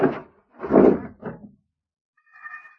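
A front door opens as Wimple comes into the house on a hot, humid day: a few dull thumps and rattles, a pause, then a brief, thin squeak of hinges as it swings.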